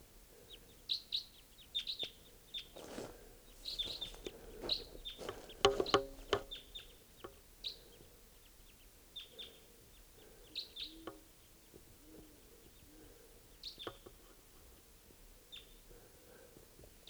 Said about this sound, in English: Just flew over. Stop. More crossbills at 5:30 a.m. Stop. Two birds. They're coming closer. Actually, three, four,